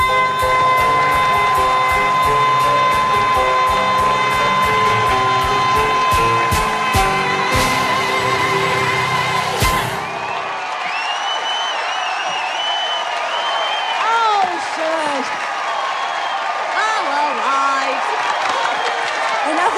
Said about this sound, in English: Girls revel in the applause.